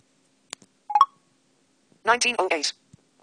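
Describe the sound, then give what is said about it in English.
A couple of sharp keypad clicks and a short pair of electronic tones from an iPhone 4 running iOS 6.1.3 as its screen is unlocked, followed by a brief burst of quick synthetic-sounding speech, all fairly quiet. “So what I'm now going to do is unlock my screen.”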